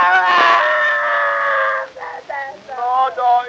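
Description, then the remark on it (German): A man screams loudly in pain as a doctor pulls his tooth, one long strained howl lasting nearly two seconds, followed by several shorter, wavering cries and moans, with no other sounds. “Ja, wie kann denn ein Mann so schreien?”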